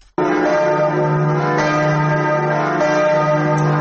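The new bells of Notre-Dame Cathedral in Paris, France ring out loudly and continuously at its reopening before Christmas after five years of restoration following the fire, their rich overlapping tones sustaining and blending into a dense, resonant peal with no voices present.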